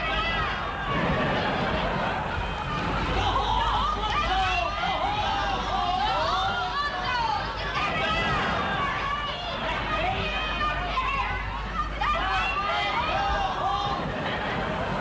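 A dense crowd roars continuously, many overlapping voices shouting and cheering at once, loud, sustained for the whole stretch without a break.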